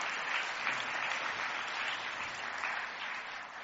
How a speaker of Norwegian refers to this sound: Hvis du kan gi meg litt applaus for det, så kanskje det blir bedre. Takk.